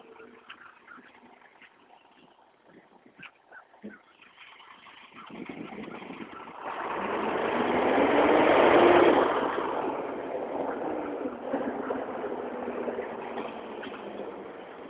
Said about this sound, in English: Is it a garbage truck? No. Recycling truck, I guess. I'm walking past houses that have plastic recycling bins out front.